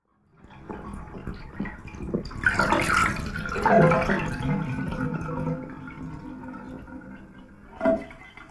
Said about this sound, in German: Rolf hatte das Wasser aus der Wanne gelassen.